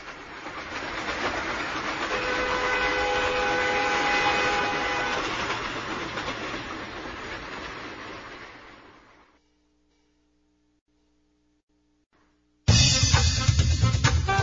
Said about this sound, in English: On a train.